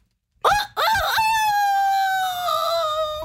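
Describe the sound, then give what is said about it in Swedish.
A person in the Rix Morgonzoo radio studio imitates a rooster crowing: a loud vocal cock-a-doodle-doo with two short rising bursts, then one long sustained wavering note held for about two seconds. “Kan inte du köra ditt tuppljud igen,”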